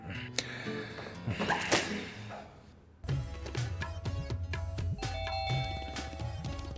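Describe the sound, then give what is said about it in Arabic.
A doorbell rings with bright, chiming tones over a busy background, then the ringing grows louder and more sustained after a brief dip, repeating in quick succession. “قوم افتح الباب.”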